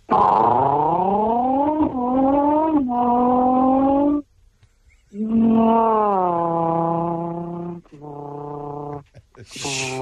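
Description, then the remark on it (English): A human voice loudly imitates a Nissan GTR engine driving past with a Doppler effect as it goes away, revving up in rising pitch through several gear shifts with brief pauses between, with no other talk. “Okay, so I'll start off with an easy car, a Nissan GTR.”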